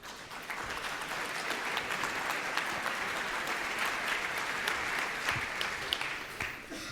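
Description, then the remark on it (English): Steady applause from an audience welcoming a paleo artist to give a talk, a dense wash of many hands clapping at even volume for several seconds before starting to taper off at the end. “I ask you to give a warm welcome to Joshua Knuppe, paleo artist.”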